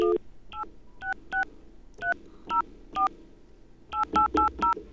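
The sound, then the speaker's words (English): A string of about twelve short, bright keypad beeps from a phone being dialed to call a number, in uneven bursts, then a quick run of five tones at the end, each a clean two-pitch chirp. “We're going to call the number now.”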